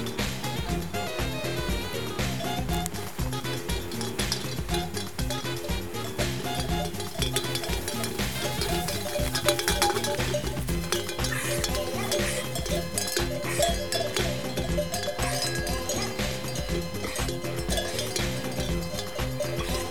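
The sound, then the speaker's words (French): A flock of ewes on summer pasture moving past, a steady jangle of many clanking bells mixed with the shuffle and clatter of hooves, continuous throughout. “Les brebis, là, elles sont arrivées le 8 juin.”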